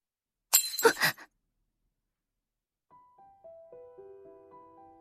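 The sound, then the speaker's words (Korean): A ceramic plate is dropped and smashes in one sharp, bright crash with a brief scatter of shards, then silence, followed by soft, sustained musical tones stepping downward in pitch. “접시가 부서지는 소리가 밤의 정막을 찢어발겼다.”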